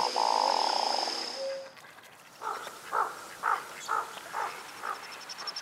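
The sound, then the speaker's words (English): A courting duck's frog-like call, made in its throat as it throws its head back and fans its white patch: a series of about seven short, throaty croaks at a steady rhythm, clear, after a brief high, steady whine at the start. No talking. “When they're courting, they throw their head back and they make that patch into a big white fan and make this really weird noise in their throat.”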